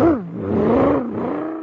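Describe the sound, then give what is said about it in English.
A supercharged car engine revs loudly, its pitch dipping then climbing and holding steady as it accelerates away, a brief mechanical roar with no talking. “Gosh, my surface car is supercharged now.”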